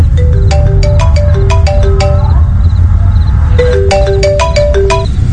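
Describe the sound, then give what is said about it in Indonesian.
A phone ringtone for an incoming call at home rings out in two bursts of bright, melodic chiming tones with a short pause between, playing over a steady low rumble in the background. “Sampai ada yang menelpon Om Ivan.”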